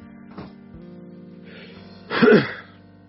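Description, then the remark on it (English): A loud cough bursts out near the end, preceded by a smaller, short breathy sound a moment earlier, with no talking around it. “Oh, cough.”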